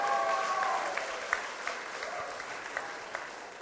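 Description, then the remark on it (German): An audience claps steadily for a few seconds, giving applause for a presented object called 'the Heaven' (der Himmel), a dense wash of applause with a few sharper individual claps standing out and a faint high whistle-like tone near the start. “Ja, Applaus für den Himmel.”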